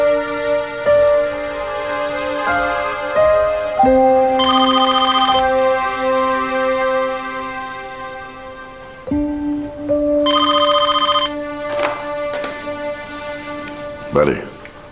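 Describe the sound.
A melodic phone ringtone plays a repeating tune in steady phrases, with bursts of bright trilling ring tones, fairly loud, with people talking over it.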